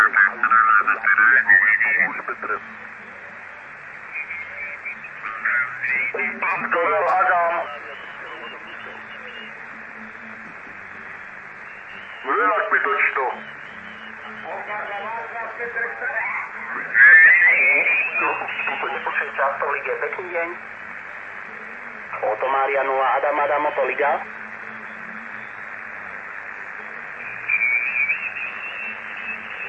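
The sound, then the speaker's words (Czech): Steady background interference at S7 level on an amateur radio band, received in a building: band-limited hiss fills the whole recording, with bursts of distorted, garbled voices cutting in and out through the receiver noise at moderate loudness. “Tady mám základní rušení na tom bandu S7, jo, ten, to je vždycky, nevím, odkud se to bere tady v tom baráku.”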